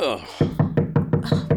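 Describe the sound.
Rapid, heavy pounding on a front door by a police squad one morning in the fall of 2004: about seven loud, evenly spaced thuds in quick succession, following a brief moment of voice or tonal sound at the start.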